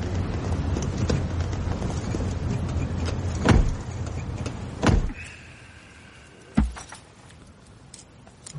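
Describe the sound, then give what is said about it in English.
Electric car windows whir down with a steady motor hum, set against a rumbling background and broken by a few sharp clunks and thumps. “We'll open the bloody windies.”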